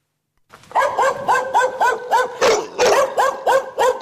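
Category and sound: animal, stray dogs barking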